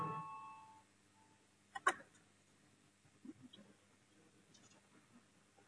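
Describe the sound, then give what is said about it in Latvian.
A short electronic parliamentary voting bell tone sounds at the start and fades within a second, rung to call a vote on a committee proposal, followed by a sharp knock and quiet room noise. Nobody speaks. “Lūdzu, zvanu, balsosim par 17. Budžeta un finanšu nodokļu komisijas priekšlikumu.”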